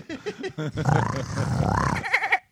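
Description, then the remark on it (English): A person vocally imitates a river otter, making a string of short harmonic yelps that run into a long, warbling, growly squeal, ending with a few clipped chirps, fairly loud. “River otter.”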